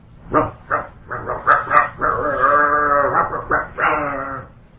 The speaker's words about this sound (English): there was an interview little video Prabhupada being interviewed in Los Angeles, and at a certain point during the interview, you could hear outside a dog barking.